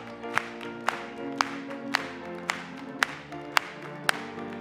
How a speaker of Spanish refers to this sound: Vamos a aplaudirle.